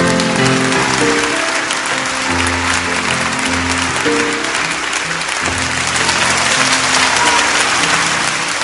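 A large concert audience at the Auditori in Barcelona applauds loudly and steadily after a live piano performance on Tuesday 11 November, dense clapping filling the space throughout, with faint sustained musical tones lingering underneath the ovation.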